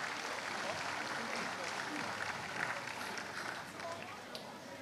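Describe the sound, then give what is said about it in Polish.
Steady, dense applause from an audience at a Polish harvest festival (dożynki), a continuous wash of many hands clapping at even loudness for volunteers from across the voivodeship, with no single voice standing out. “Wielkie brawa dla wszystkich naszych ochotników z całego województwa.”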